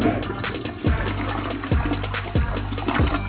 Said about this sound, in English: And for that, I think you deserve the raw flush for that shit.